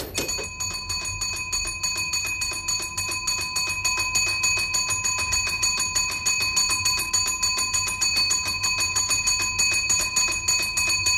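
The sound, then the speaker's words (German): A rescue alarm bell at a gravedigger's rings continuously in rapid, even strikes, a bright metallic clatter, steady and fairly loud with no voices. It is linked by a rope mechanism to the hand of a laid-out corpse, so the slightest movement sets it off. “Um die Hand des aufgebahrten Leichnams wurde ein Seil geknotet, das über einen Mechanismus mit dem Rettungswecker beim Totengräber verbunden war. Die kleinste Bewegung löste Alarm aus.”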